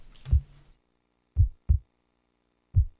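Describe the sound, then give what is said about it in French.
Deep, muffled heartbeat thumps, fairly loud, with a paired lub-dub followed by a single beat after a short pause. Nothing else in between, and no talking. “Tu les entends, mes battements de cœur?”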